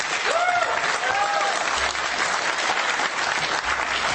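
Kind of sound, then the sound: crowd, audience applauding and cheering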